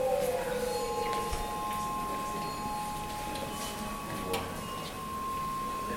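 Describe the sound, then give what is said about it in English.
Soft chimes ring out with steady, sustained tones that hold through the whole stretch, layered over a low, rustling background with a few faint animal-like sounds. “These chimes, they act almost like a jingle, like a sign that they give us immediate a hint, a point towards what is going on in this room.”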